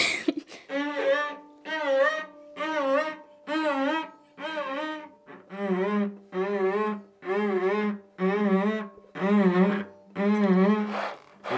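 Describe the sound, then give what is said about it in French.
A voice imitates a zipper using breath alone, a rhythm technique called 'la fermeture éclair': about eleven evenly spaced, loud breathy bursts, each carrying a buzzy, wavering pitch, repeating steadily roughly once per second with no talking. “Bon, après, il y a ce qu'on appelle la fermeture éclair.”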